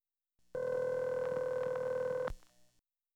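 A telephone number being dialed: a steady, loud phone tone hums for about two seconds, broken by a few quick key-press blips, then cuts off abruptly. No voices.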